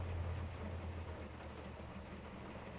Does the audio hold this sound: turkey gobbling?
no